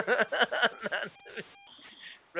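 A short electronic beep, which keeps going because a participant on the call is on mute, sounds over a muffled, narrow phone line, with indistinct voices talking before and after it.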